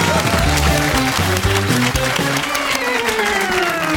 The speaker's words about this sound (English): Give them all a huge round of applause.